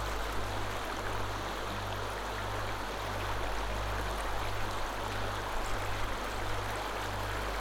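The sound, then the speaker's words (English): Steady rushing water of a cool mountain stream flows without pause, as if coursing over rocks, with a faint low hum running underneath and no voices. “The cool mountain water moves with the sun-fed other, creating a flow of adjustable comfort.”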